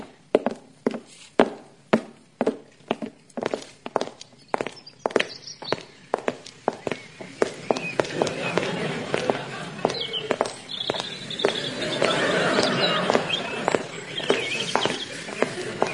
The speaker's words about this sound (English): Those footsteps you heard, they were ours, crossing into the back alley.